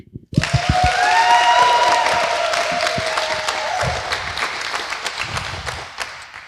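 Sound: loud round of applause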